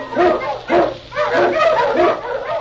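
animal, husky sled dog barking

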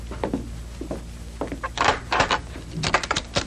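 household object, door being opened

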